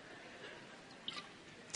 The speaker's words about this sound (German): Ich trinke noch mal einen Schluck Wasser.